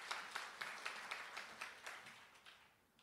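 An audience claps in welcome, a steady patter of sharp claps with distinct beats standing out, fading toward the end. No voices are heard over it.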